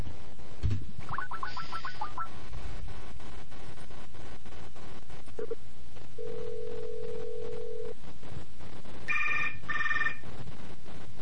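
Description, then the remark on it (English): A phone line rings with one steady buzzing ring tone, preceded by a quick burst of dialing beeps and followed by a few brief electronic tones, all over a constant line hiss, as a call is placed from a cell phone to a pump station. “And this is one we've definitely called previously, but I like it, so we're going to call it again. This is the pump station, and let's try one more time to see if we can't get my cell phone to pass DTMF on this damn thing.”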